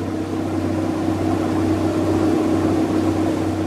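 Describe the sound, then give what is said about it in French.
A coast guard patrol boat's steady, droning engine hums as it comes toward a boat on the Atlantic off Newport, its low harmonic rumble holding constant with a faint wash of water noise over a few seconds; no one speaks. “Et voilà les gardes-côtes. La vedette vient vers moi.”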